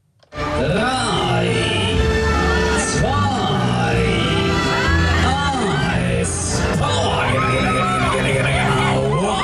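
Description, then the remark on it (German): A loud, steady din at the Knabenschiessen funfair (Kilbi) in Zurich: many voices chattering and shouting together, with rising and falling whoops and yells cutting through a dense wash of crowd noise and ride machinery. “Wie aber läuft der Schausteller, der für kribbelige Bäuche und fröhliches Geschrei an den Kielbi sorgt, nach der Pandemie?”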